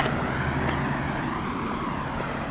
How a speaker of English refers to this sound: That's the traffic to our left.